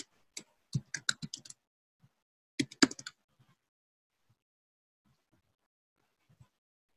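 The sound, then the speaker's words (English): Keys clatter on a computer keyboard in two quick bursts of typing, fairly crisp, followed by a few faint, scattered taps amid quiet. “Sorry, not good at typing and talking at the same time.”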